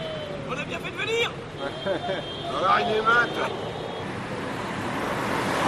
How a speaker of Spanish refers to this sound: Y así suenan los primeros coches pasando la frontera terrestre con Francia.